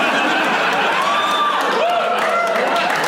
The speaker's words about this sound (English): They're cheering.